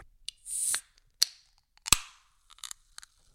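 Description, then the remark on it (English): A can of LaCroix sparkling water opening: a short burst of hiss, a couple of sharp metallic pops from the tab, then faint crackling fizz from the bubbles. No one speaks. “Oh, you hear the fizz?”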